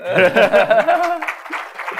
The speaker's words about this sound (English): Now we're connected in an audio call from that phone over to this user on Skype for Business. Pretty cool. Clap for that, maybe.